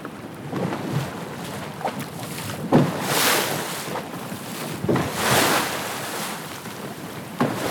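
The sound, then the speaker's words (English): Wind buffets the microphone over the rush of water as a small tour boat heads out across open sea for about 30 minutes, the island still in view, with rolling surges of spray and splashing rising and falling every couple of seconds. “So we headed out to sea for about 30 minutes.”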